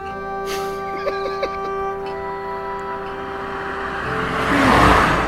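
A single car passes by on the road outside a house, its engine hum rising into a broad swelling rush of tyre noise toward the end, over a steady tonal drone with a few faint clicks.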